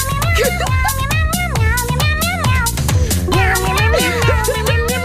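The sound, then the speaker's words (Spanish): A voice imitates a kitten with a string of high, wavering meows, sung in a song over steady, busy music with a rhythmic beat, loud throughout. “Con un gatito me dijo miau, no le entendí, una vez más.”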